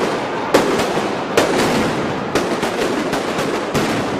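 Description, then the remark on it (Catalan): A firecracker salvo (tronada) of the Festa Major de Sant Pere: a dense, continuous crackle of loud bangs with sharper blasts standing out roughly every second over a constant roar of popping. “Ara som-hi, darrera Tronada de Festa Major de Sant Pere.”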